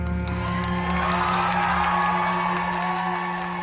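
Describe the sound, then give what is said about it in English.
A packed theater crowd cheers and roars loudly and steadily as a woman begins her walk down a long runway, a dense wall of voices with sustained musical tones running beneath it for the whole stretch. “She begins her walk down the long runway in a packed theater, and the crowd goes wild.”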